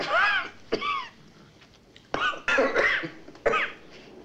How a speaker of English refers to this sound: starts to cough.